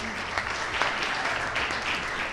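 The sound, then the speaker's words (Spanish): An audience claps steadily, a dense, even patter of many hands holding a constant loudness throughout, with a faint murmur of voices mixed underneath. “alumna de segundo de bachillerato, que además es voluntaria de Cruz Roja, así que un fuerte aplauso, ¿no, chicos, para ella?”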